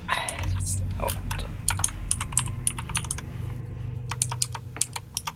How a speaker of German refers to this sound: Sorry, dass meine Tastatur so laut ist.